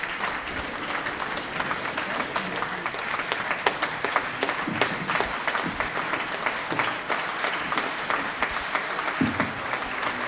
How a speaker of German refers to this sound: Ich glaube, den Applaus habt ihr gehört.